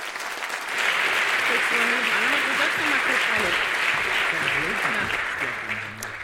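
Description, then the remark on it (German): Sustained applause from an audience, a dense steady wash of clapping that swells in quickly and holds strong for several seconds, with faint voices murmuring underneath before it starts to taper, welcoming two speakers on the degrowth movement and the future of technology and gadgets. “Bitte nochmal einen riesengroßen Applaus für die beiden und ganz viel Spaß.”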